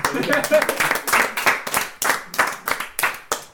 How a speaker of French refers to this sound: T'as bien, on l'applaudit.